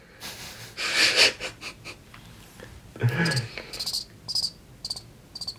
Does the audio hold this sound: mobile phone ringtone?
no